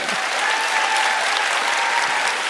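Steady audience applause, a dense wash of many hands clapping at an even loudness throughout, with no talking over it.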